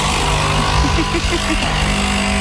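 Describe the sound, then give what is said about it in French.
A chainsaw sound effect, a lumberjack effect played on the One FM radio morning show: a loud, steady motor buzz with a string of quick, rhythmic revs in the middle, then a return to an even drone. No one speaks. “Je crois que c'était un bruitage de bûcheron. La tronçonneuse.”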